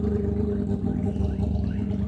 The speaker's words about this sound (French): Donc, on va laisser partir la voiture.